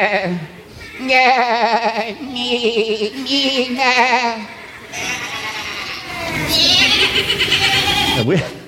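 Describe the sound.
Several voices imitate sheep, letting out wavering, quavering baa sounds one after another, some overlapping, loud, with brief breaks between the bleats.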